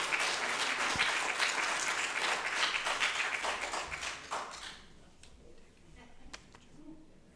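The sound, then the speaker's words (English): An audience claps in a dense, loud burst of applause that holds steady for several seconds, then thins out to a few scattered claps before fading. “Give him another round of applause for doing that.”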